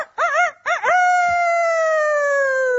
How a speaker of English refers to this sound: Well, anyway, humans have relied on roosters to wake them up for nearly 5,000 years. Wake up, everybody! Roosters have a distinctive crow.